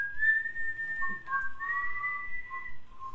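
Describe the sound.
A person whistles Proto-Man's whistling tune, clear sustained tones gliding between notes for a few seconds, with no talking over it.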